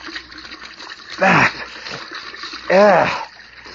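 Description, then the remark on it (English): A cold faucet runs in a steady, hissing stream as a person ducks their head under it, with two short, loud vocal outbursts, like gasps or grunts, rising over the water noise. “Well, I'm going to duck my head under the cold faucet.”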